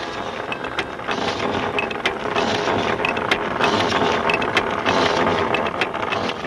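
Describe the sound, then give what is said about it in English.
Steady mechanical grinding and clanking of a rotary drill boring into the ground to drill a well in Cotoca, with a continuous churning roar, rapid ratcheting clicks and sharp metallic ticks, loud throughout and no voices. “While Ben and his crew send the rotary drill deeper into the ground, the women of Cotoca work at their pots and pans.”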